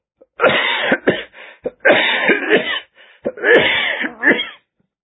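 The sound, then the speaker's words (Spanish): A loud coughing fit from a person who has choked: several harsh, wet coughs in quick bursts with short gasping pauses between them, lasting a few seconds before stopping. “Discúlpame, no podía parar mi tos.”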